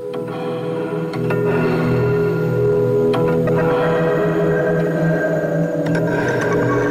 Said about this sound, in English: maybe just a drone like that might be the bed. And then I start, you know, manipulating things through delays and whatnot and stacking on top